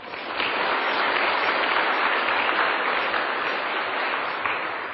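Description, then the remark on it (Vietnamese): A crowd of school students claps steadily for several seconds during a teacher's talk, a dense, sustained wash of applause from many hands, fairly loud and even throughout with no voices standing out. “Xin cho một tràng pháo tay.”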